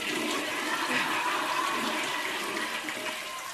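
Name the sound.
toilet flushing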